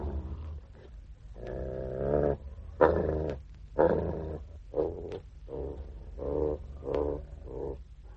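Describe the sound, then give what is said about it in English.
A wild beast growls in a string of rough, rumbling bursts, roughly eight of them, some longer and some clipped short, deep and menacing with brief pauses between. No voices. “The children crouched in the dark, holding hands, while the wild beast that was the enchanted Mardian growled for their blood.”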